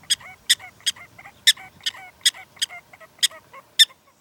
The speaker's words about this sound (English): Prairie dogs are chatterboxes. There's always a lot of talking going on a prairie dog town. They're talking about everything incessantly. They're like, cha-cha-cha-cha-cha-cha-cha-cha-cha-cha.